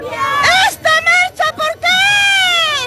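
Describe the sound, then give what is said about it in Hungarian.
At a peace march, a woman shouts in short, strained bursts asking why they are marching, then the crowd answers with a loud, sustained roar of chanting voices calling for peace in Colombia that carries to the end. “Kiabálja ez az asszony, hogy béke legyen Kolumbiában, harsogja a választ a tömeg.”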